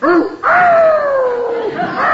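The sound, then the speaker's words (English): A dog tied up outside barks and yelps in loud, drawn-out cries, one short yip followed by a long wavering howl-like wail that trails off, then rises again briefly at the end. “I tied the dog up outside. I didn't want him running around chasing your cat”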